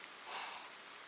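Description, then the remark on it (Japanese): Soft, steady, gentle rain hisses evenly throughout, heard from under a roof, a quiet continuous wash that swells slightly partway through. No voices. “私は正直、雨の音って結構好きなんです。しとしとと降る雨は、心を落ち着ける作用がありますからね。”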